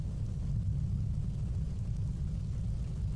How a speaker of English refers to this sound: The rain woke me up. I've just been listening in the rain.